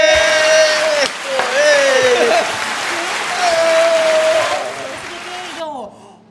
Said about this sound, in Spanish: Espérate, eso sí es un aplauso. Este cabrón. Vamos a ver el botón.